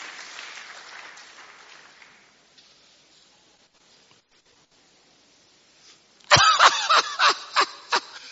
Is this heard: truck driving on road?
no